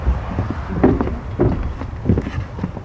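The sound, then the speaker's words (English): A 30-year-old wooden shrimp boat, the Tammy Gale, moored at a dock at 7 o'clock on a beautiful morning, with a steady low rumble and light wind noise, broken by three muffled wooden knocks or creaks spaced about half a second apart. “We're at the dock right now. We're leaving a little late.”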